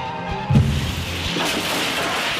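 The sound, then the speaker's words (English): A taxi slams into a tree at full speed: a sudden heavy thud and crunch, followed by a second, smaller impact and a steady wash of noise trailing off, with no voices. “The taxi has smashed into a tree at full speed.”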